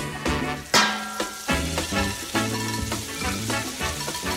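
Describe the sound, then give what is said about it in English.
A steady hiss of food sizzling in a hot frying pan, a sound effect for the Frying Pan show on WGN Radio, running continuously under a rhythmic musical backing with repeated punchy notes, fairly loud. “I'm Justin Kaufman, and it's Friday night, 10 o'clock hour, so it means it's a frying pan.”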